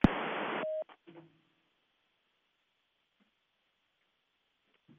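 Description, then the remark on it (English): A loud burst of band-limited phone-line noise for under a second, then a short tone and a few faint clicks, followed by near silence as a telephone line is patched through a mixing board for a recorded interview. “I'm going to patch the phone through the board here, and it'll be just a second of silence, then we'll be back and ready to go, okay?”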